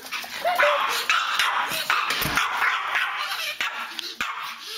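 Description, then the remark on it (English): Boo, a Pomeranian dog, yips and barks in rapid, high-pitched bursts mixed with whimpers, loud throughout, with no one talking. “She said, take, for instance, Boo the Pomeranian.”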